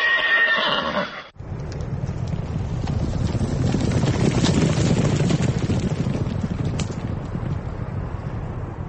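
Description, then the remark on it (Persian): A high, quavering horse whinny rings out for about a second at the first republican horse race for the 2009 Tajikistan Cup, held at the hippodrome in Dushanbe, then cuts abruptly to a steady, loud rumbling roar with rapid thudding, like galloping hooves mixed with wind, lasting to the end. “نخستین مسابقه جمهوریوی اسب دوانی برای دریافت جام تاجیکستان 2009 در ایپادروم یا اسپرس شهر دوشنبه صورت گرفت.”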